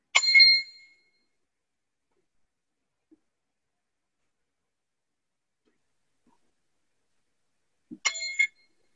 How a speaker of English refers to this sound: We're going to have a moment of silent meditation. So you can close your eyes or you can keep them open. We're just going to have some silent meditation moment. Here's my chime for it.